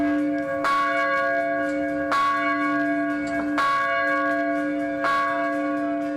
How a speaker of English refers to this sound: That is UGA's victory bell that rings in Athens when the dogs win.